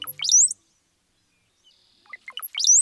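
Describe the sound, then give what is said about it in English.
A brown-headed cowbird sings twice, each burst a quick run of liquid gurgling notes ending in a thin, high rising whistle, separated by a short quiet pause, clear with no talking. “Brown-headed cowbirds have a sneaky approach to parenthood.”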